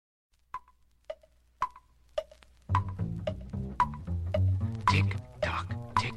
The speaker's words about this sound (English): Grandfather's clock goes tick-tock. That clock's got rhythm with a beat that swings. Dig that clock. Swing it, clock.